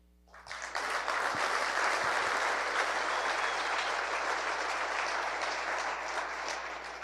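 A crowd breaks into sustained applause, rising quickly after a brief quiet start into a dense, steady wash of clapping that holds loud for several seconds before easing slightly at the end.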